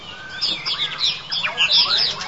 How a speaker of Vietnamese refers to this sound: Con chim. Có một con chim hay là mấy con? Nhiều con.